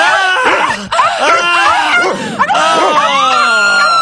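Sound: dogs barking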